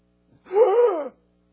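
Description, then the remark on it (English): A single sharp, drawn-out gasping inhale as breath returns, fairly loud, voiced with a strained, almost moaning edge, lasting under a second before stopping abruptly. No one speaks. “You're breathing in.”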